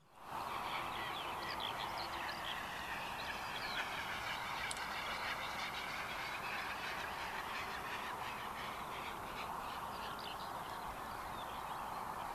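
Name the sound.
great bustard call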